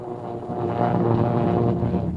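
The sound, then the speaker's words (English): Heavy propeller engines roar in a steady, rumbling drone that swells slightly as a large Army bomber gathers speed taking off from an aircraft carrier, loud, with no voices over it. “There's a breathless moment as the big bomber gathers speed. It's airborne.”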